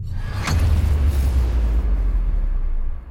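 explosion boom effect

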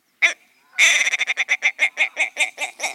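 ptarmigan call

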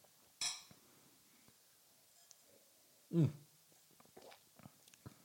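beer glasses clinking

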